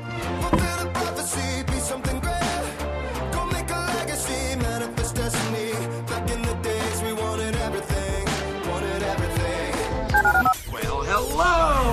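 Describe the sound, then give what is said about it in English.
Telephone dialing tones chirp in quick bursts over a loud, dense musical bed in a station promo for the ESPN 97.5 listener line, ending with a brief warbling sweep near the close. “Dial the phone.”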